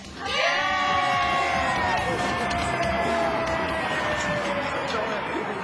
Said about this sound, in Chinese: 线上的人朋友们大家好，我们听到这个欢呼声啊、哦、我想大家都知道我们节目要开始了，青少年特区。